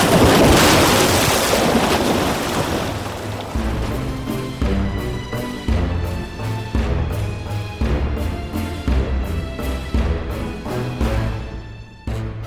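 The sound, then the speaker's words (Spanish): A loud, roaring rush of crashing ocean waves from a tsunami fills the first few seconds, then gives way to rhythmic music with a steady beat that continues to the end. “Se produjo un espectacular maremoto, un tsunami como nunca antes se había visto.”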